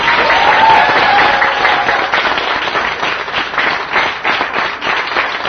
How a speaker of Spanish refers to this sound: Si los aplausos son más fuertes, tal vez va a llegar.